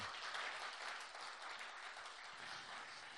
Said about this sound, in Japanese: まずイエス様に大きな拍手をいただきましょうか。ハレルヤ。